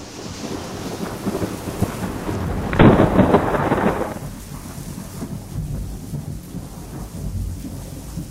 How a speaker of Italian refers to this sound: Il tuono. Rotolo, rotolo, rotolo, rotolo, rotolo, rotolo, rotolo, rotolo. È passato sopra il mio tetto. Deve essere una gigantesca palla fatta di nubi. E corre nel cielo da un punto all'altro.